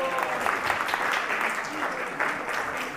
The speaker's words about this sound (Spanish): Y un gran aplauso para él, por favor.